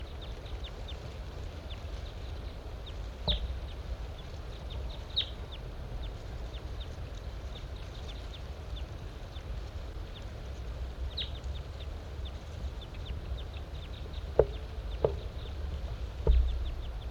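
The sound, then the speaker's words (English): A large-race male bird sings in short, high, chirpy notes that come in scattered bursts over a steady hiss of background noise, with a few sharper clicks and no talking. “Large race male in song.”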